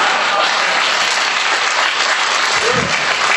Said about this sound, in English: I like that you guys applaud. That's, why would you applaud that? That's horrible.